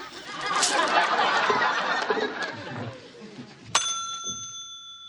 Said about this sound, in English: and then he goes back to Coat Check. where he rings the bell one more time, taking himself out of the spell, and he spits out his candy and asks for his coat.